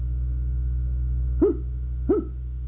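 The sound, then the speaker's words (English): A small dog barks twice, short sharp yaps about half a second apart, over a steady low hum with no one speaking. “Listen to the dog.”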